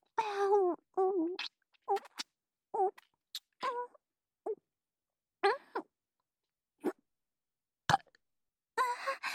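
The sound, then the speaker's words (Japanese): A low burp opens, followed by a string of short wet mouth noises and soft breathy bursts separated by brief silences, with a sharp click near the end. “出ちゃった。先走りゲップ。”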